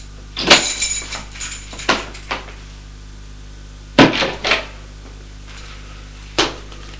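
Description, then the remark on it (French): A door on the ground floor opens with a rattle of the latch and a quick series of clicks and knocks, then a few more thuds after a pause. No one speaks. “Arrivé au rez-de-chaussée, la porte s'ouvre.”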